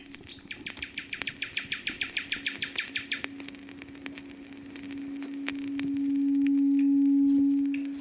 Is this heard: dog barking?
no